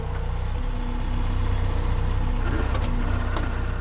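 A motorized earth auger drones steadily with a low, buzzing engine hum and strong harmonics, loud and constant, with a few brief scraping crackles toward the end and no one talking.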